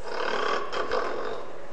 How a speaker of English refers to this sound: Snoring, wake up. Oh, snoring and wake up.